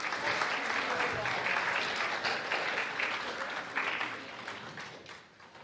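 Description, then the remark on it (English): An audience claps in a steady round of applause, a dense wash of many hands that holds strong for several seconds before gradually thinning and fading out. “Give all our friends a round of applause.”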